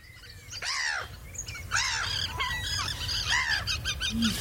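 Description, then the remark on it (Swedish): Several birds call out in the open, with repeated arching, honking cries mixed with brighter chirps over a steady low rumble of background noise, moderately loud with no talking. “P1 och Naturmorgon direkt sänder sin numera berömda fågelsångsnatt just den här helgen”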